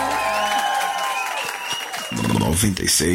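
A crowd claps and cheers loudly and steadily for a singer for about three seconds, with scattered shouts and whoops rising over the applause toward the end.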